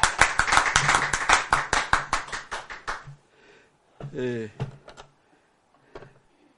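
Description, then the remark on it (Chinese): A quick, steady burst of hand clapping, roughly twenty sharp claps over a few seconds, fading out. A brief spoken voice follows once the applause stops. “赞不赞？拍手。”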